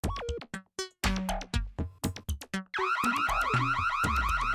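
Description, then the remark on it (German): A loud electronic alarm siren cycles through patterns: first choppy bursts of beeps and tones with brief gaps, then a continuous rapid, wavering wail. No voices are heard. “Mika schlug mit der Faust auf einen roten Knopf und die Sirene verstummte.”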